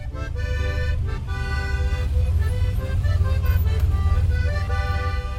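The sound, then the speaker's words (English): A steady rumble of four lanes of street traffic inching forward to the U.S. border crossing, engines idling and rolling past, while a man walking against the traffic plays sustained accordion tones over the din throughout. “A man with an accordion walks against four lanes of traffic, inching forward to the U.S. border crossing.”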